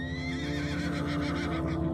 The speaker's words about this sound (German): Wieder hörst du das leise Wiehern.